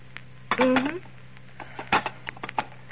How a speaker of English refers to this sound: Well, I guess that about finishes the dishes for the night.